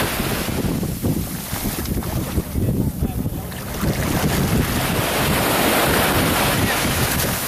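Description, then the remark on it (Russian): A motorboat water taxi's engine drones steadily as it passes on a canal in the Netherlands, mixed with rushing wind buffeting the microphone and the slap of wake, staying loud and continuous throughout. “А это вот трамвайчик. Это водяное такси, мотор такси.”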